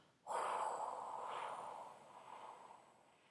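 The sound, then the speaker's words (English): A long, steady breath blown out slowly during a breathing exercise, after an in-breath counted to four and a hold counted to seven: a soft airy hiss that starts abruptly and tapers gradually over about three seconds, with no talking. “And breathing out.”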